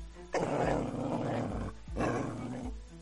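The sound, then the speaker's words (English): A male dog snarls and barks ferociously in two loud, drawn-out outbursts separated by a brief pause, with no voices. “Whoa, down, boy.”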